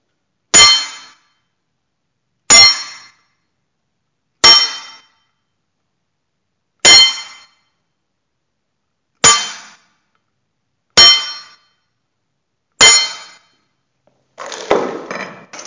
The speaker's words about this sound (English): These are just bell guard hits on an épée.